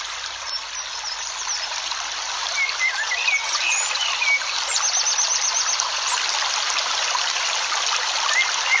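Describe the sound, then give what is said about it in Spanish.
A crystal-clear stream flows steadily with a constant bright rushing and trickling, heard while walking beside it, while faint bird chirps and tweets sound now and then above the water. No one speaks. “Seguimos paseando junto a un arroyo de agua cristalina. Escuchamos el sonido del agua.”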